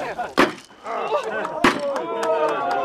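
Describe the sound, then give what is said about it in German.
Two sharp, solid knocks on a wooden foundation beam, ceremonially marking the start of a wooden house being built by the Czech Technical Museum in Prague, spaced over a second apart, ring out loudly while people talk in the background. “Wenn Sie erlauben, werden wir feierlich auf den Grundbalken klopfen.”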